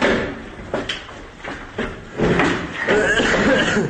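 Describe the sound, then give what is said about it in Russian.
An apartment door in Selydove being forced open, working on the upper locks: a series of heavy, irregular bangs and grinding scrapes, with muffled voices in the background. “Хату вскрыли, сейчас вторая вскрывается.”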